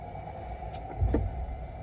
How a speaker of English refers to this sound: The forklift goes in and out of the truck, in and out of the truck.